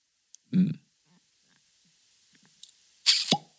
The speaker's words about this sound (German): Und ja, jetzt lassen wir, glaube ich, mal den Korken hier knallen. Knallen, dann hätten wir sind wir beim anderen Getränk. Eher das, ploppen.